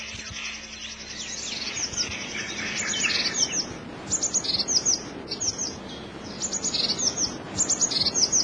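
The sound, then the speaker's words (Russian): A blue tit calls repeatedly in short bursts of high, thin, clipped notes in Hannibal Alley, among 200-year-old spruces at Pushkin's estate, against a quiet outdoor background with a low rumble and no voices. “В аллее Ганнибала 200-летние ели и неизменная лазоревка.”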